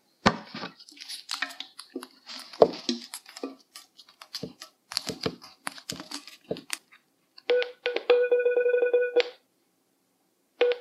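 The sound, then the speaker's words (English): Scattered clicks and rustling from handling a phone, then a barcode scanner app's electronic beeps, as the phone is moved slowly toward a barcode on Swanson chicken broth, start sparse and speed up and grow louder into a rapid, buzzing run of tones before cutting off when the barcode is recognized. “As I move the phone slowly, you can hear the beeps getting closer together and louder.”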